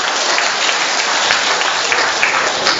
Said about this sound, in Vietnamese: Rồi xin một tràng pháo tay để cảm ơn hai sơ.